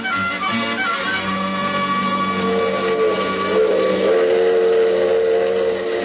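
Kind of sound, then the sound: vehicle, steam train whistle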